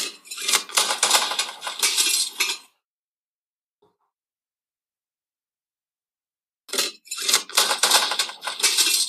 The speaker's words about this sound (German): Also da ist mir gerade irgendwas beim Spülmaschine ausräumen kaputt gegangen, aber keine Ahnung. Ja, geht in die richtige Richtung. Boah. Altpapier wollte ich schon sagen. Altglas. Korrekt. Ernsthaft? Der Glascontainer.